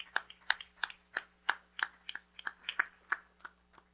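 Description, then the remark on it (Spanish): A church audience claps together in a steady rhythm, about three sharp claps per second over four seconds, with a faint low hum underneath and no talking. “Vamos a dar un aplauso más, porque se merece y eso más, mis hermanos.”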